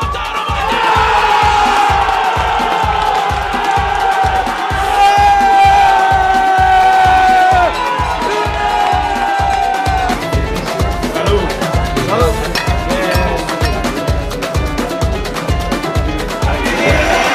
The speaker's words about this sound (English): What game is this? Inter Milan versus Barcelona. All right. Do we know at this bar who's rooting for who at this bar? No idea. Is it like a Barcelona crowd, or is it an Inter Milan crowd?